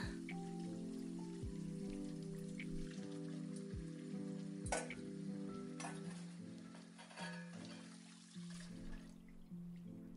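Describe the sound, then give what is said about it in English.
Running water splashes steadily while dishes clink and knock now and then, with a few sharper clatters. A low, steady tonal hum sits underneath, and no one speaks. “All done with the dishes, sugar.”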